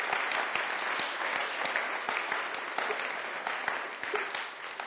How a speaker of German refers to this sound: Dürfen wir jetzt nochmal klatschen.